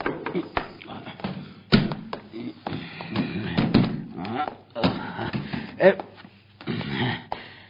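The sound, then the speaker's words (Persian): Chairs being moved and set in place for a meeting, with a run of irregular wooden thumps and short scrapes. Faint voices murmur in the background at times. “فقط صندلیا رو بچین”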